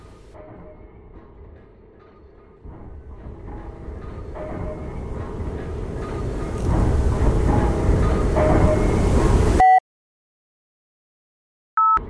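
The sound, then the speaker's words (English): Heavy machinery at the bottom of a deep shaft in a giant plastic pyramid roars with droning hums while wind blasting out of the shaft builds steadily louder, then cuts off abruptly into silence, followed by a brief tonal blip at the end. “That mechanical noise is made by the machinery at the bottom of the shaft.”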